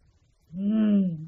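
A big wolf growls once, a loud, low, drawn-out rumble that swells and then eases off over about a second, heard alone after a brief quiet moment.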